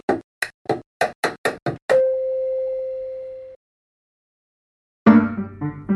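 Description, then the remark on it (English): Stitch tap dancing with a single tap shoe: about eight sharp, clicky taps in a quick, slightly uneven rhythm. A steady mid-pitched tone follows, then a pause before tonal sound resumes. “Tap dancing? Chop chop? With one tap shoe?”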